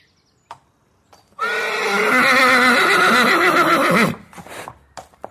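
A horse lets out one long, loud whinny that wavers up and down for nearly three seconds, followed by a few faint shuffles and knocks.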